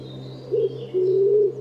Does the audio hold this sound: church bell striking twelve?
no